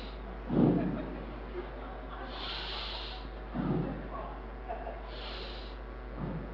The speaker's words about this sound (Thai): สูดลมหายใจลึกๆยาวๆ3ครั้ง